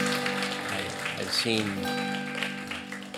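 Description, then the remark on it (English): A church audience claps its hands to the Lord in a steady, dense wash of applause lasting a few seconds, with voices and sustained musical tones mixed in underneath. “Give a hand clap to the Lord for the work he's done in our hearts.”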